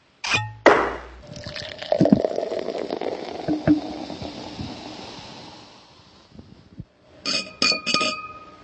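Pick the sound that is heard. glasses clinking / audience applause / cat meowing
glasses clinking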